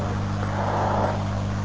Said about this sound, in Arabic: شو هاي سيارة؟